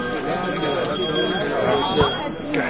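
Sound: telephone ringing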